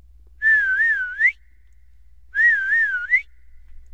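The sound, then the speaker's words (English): A person discreetly whistles a familiar signal, a short, wavering call that swoops upward at the end, then repeats the identical phrase after a brief pause. It's clear, with no talking. “Hari left his home and discreetly whistled the same familiar whistle.”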